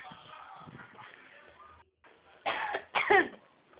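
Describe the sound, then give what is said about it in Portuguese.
Two sharp, loud coughs, one right after the other, following a stretch of quiet rustling and low background noise. “Relaxa, eu só tossi, eu não espirrei.”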